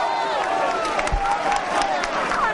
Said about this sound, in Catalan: Aquests aplaudiments són els de la plaça i els crits són els de la colla. Escoltem-los.